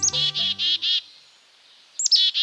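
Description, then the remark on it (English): A black-capped chickadee calls: a quick run of four buzzy, repeated notes, a short pause, then another burst of the same harsh notes starting up. “The image of this dapper black-capped chickadee frequently adorns holiday cards and bags of birdseed.”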